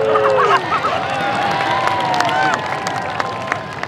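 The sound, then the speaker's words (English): A crowd of fans pressed up to the Corgi Ninja Warrior Agility Course at a corgi conference cheers and whoops in a continuous, dense wash of voices, with scattered shouts and high excited calls rising above the steady roar throughout. “Fans are pressed up to the course in a thick crowd.”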